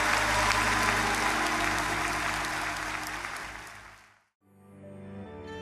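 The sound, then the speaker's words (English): An audience claps its hands in praise to the Lord in sustained, dense applause for about four seconds, loud, then fades quickly to silence before soft music begins. “Now give the Lord a hand clap of praise in this house.”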